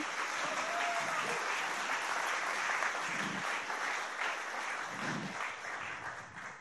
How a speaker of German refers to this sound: Das ist das Insusto-Team. Und das möchte ich einfach mal bitten, nach vorne zu kommen. Das geht nur mit großem Applaus